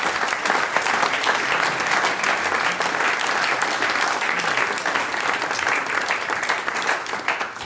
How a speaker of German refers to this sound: Das ist die …. Ein Applaus für die Herren.